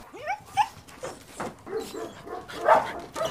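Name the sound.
dogs barking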